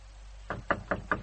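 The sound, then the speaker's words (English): Four even, firm knocks on a door, spaced in a steady rhythm with a low hum underneath and no one talking. “Open the door, please.”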